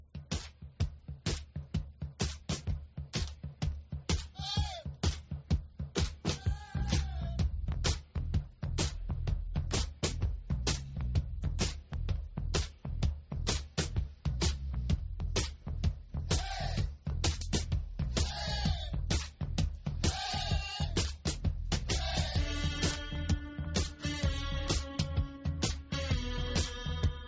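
A glam rock song plays loud and close, driven by a heavy, steady stomping drum beat under thick guitars, with layered melodic parts swelling in toward the end.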